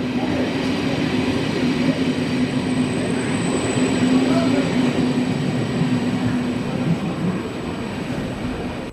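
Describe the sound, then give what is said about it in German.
Steady rumble of a train rolling through the railway station in Konstanz, a continuous low mechanical drone with a faint high whine, loud throughout, with no talking over it. “Ich bin hier in Konstanz am Bahnhof und nur 5 Minuten zu Fuß.”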